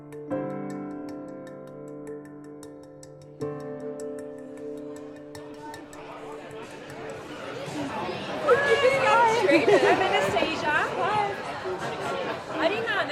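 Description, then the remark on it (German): Steady harmonic music tones with bass from speakers open the scene, then a lively crowd's overlapping chatter swells and grows louder, burying the music beneath a busy hubbub of many voices in a pub in downtown Toronto, Canada, on a Friday afternoon. “Drinnen verschmilzt der Bass aus den Boxen mit den lebhaften Gesprächen eines Freitagnachmittags.”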